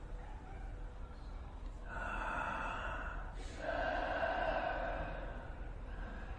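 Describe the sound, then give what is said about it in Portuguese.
Two long, breathy airflows through an open mouth during a guided breathing exercise, an inhale and then a slightly louder exhale, steady with a soft rushing texture and no talking. “Abra a boca e começa a inalar e exalar pela boca.”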